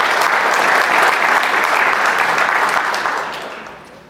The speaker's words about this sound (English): Yeah, let's clap it up for him. That was a solid question.